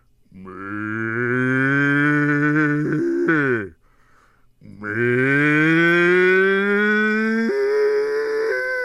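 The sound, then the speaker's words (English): A person lets out two long, loud, drawn-out calls to cows, each voice breaking and cracking in pitch near its end, sounding much like a cow's moo; the calls get the cows running. “That little crack in the voice, I think, is what really got the cows running.”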